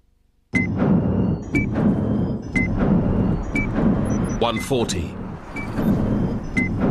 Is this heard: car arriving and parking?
yes